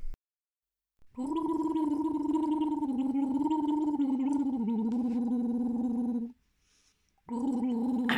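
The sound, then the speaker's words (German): A voice gargles the melody of the German Christmas song 'Leise rieselt der Schnee' in a guessing game, the bubbling tone slow and wavering, rising and falling in pitch for about five seconds, pausing briefly, then starting again. “Also den leise rieselnden Schnee hast du wieder mal gut erkannt.”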